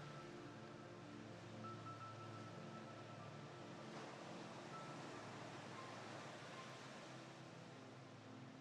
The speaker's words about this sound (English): As you stroll slowly into the sea with the waves lapping gently at your feet, the sound of the ebb and flow of the tide as it caresses the beach, a never-repeating signal for you to relax deeper.